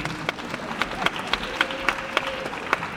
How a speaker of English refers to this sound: This is applause for the person who told me there was no rhyme.